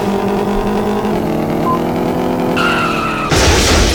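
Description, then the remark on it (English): Video game car tires skid and squeal over a steady engine drone, the screech growing louder and harsher near the end as the car turns. No one speaks. “Oh my god, this car's turning is horrible.”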